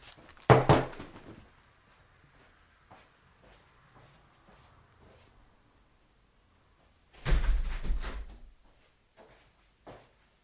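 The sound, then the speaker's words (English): An old door that had not been shut properly swings open with a sharp wooden clatter, then after several quiet seconds with faint knocks it moves again in a longer, heavier rumble and thud. “So I was recording there and the old door just swung open.”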